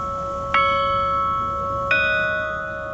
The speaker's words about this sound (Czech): A nebo takto jako zvonkohra.